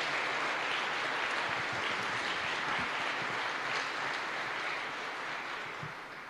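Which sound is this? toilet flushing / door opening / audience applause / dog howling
audience applause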